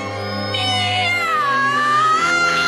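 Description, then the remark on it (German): A long, drawn-out cat meow with a rising and falling pitch, loud, sounding alone without any talking. “Miau!”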